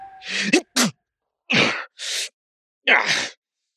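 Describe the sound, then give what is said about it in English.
A loud sneeze, set off by snow in cold weather: a quick drawn-in breath builds into a sharp double burst, followed by several breathy, hissing huffs with short pauses between them, and no talking. “sneezed and grumbled, waving away the snow dismissively”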